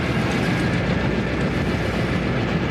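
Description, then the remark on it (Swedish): A train, with the Crown Princess at the controls at around 62, rolls steadily along the rails, a dense continuous rumble with faint rhythmic clatter and a thin high whine, holding an even loudness throughout with no voices. “Kan du se att du får ström på motorerna här?”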